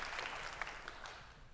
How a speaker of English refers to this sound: I've got about 8 people here. I wish somebody would say, man, do a little clapping. Help me out just a little.